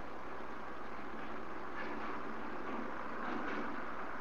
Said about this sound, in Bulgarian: Ето този трамвай, на който се качи, който те поведе към страната на сънищата, на релаксацията и покоя.